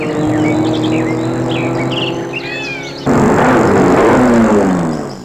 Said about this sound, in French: Mais juste où elle traverse la route, sur un vallon, se trouve un virage. Une voiture de sport rouge fonce.